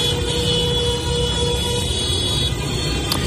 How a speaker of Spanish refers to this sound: Los coches de alrededor utilizan sus claxones para apoyar las protestas de la familia de Amini.